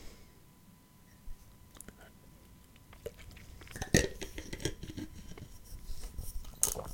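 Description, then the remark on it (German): Gulping and swallowing sounds of someone drinking a carbonated drink from a glass, with small wet mouth clicks and a few sharp glassy taps, growing busier and louder toward the end, with no talking. “Oh, ey, auf Kohlensäure komme ich so nicht klar.”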